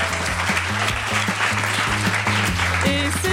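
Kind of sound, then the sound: crowd, applause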